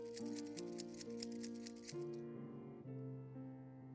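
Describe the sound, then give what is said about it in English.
Keys jingle in rapid, shaking bursts for about two seconds as the audience takes out their keys during a church sermon, over sustained organ-like music, then the rattling stops and only the held musical tones continue. “Take your keys out. May God help you to remember this when you go home.”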